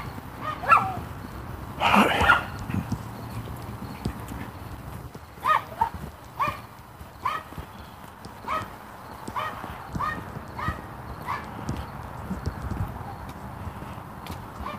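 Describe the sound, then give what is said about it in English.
A female dog barks once early on, then her feet tap and click across a hard floor in a loose, uneven rhythm, with a few scattered quieter sounds of movement. “Oh, this dog is going to be a pain in the butt, isn't she?”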